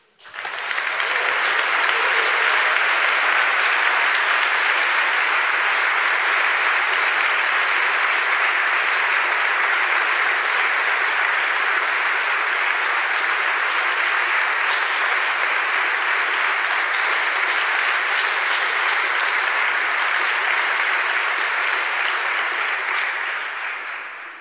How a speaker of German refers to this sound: Ja, nimm diesen Applaus mit zu deinen KollegInnen, mit denen du das tun wirst.